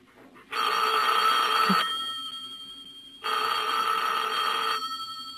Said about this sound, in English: You better answer the phone.